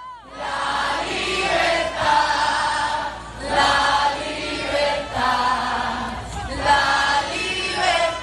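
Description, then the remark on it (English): A large protest crowd at a rally in Puerto Rico at sunset, in front of the ocean and palm trees with the capital behind, shouts and cheers together in loud, rising swells every couple of seconds, many voices blending into a continuous roar. “Ile looks out over this crowd between the capital and the palm trees and the ocean”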